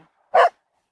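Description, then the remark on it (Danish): A single sharp dog bark rings out on a heath, fairly loud, a short burst with quiet before and after and no one talking. “Jeg kommer her ret ofte, og jeg kender dig godt, og jeg har tit set dig med løs hund inde på arealet.”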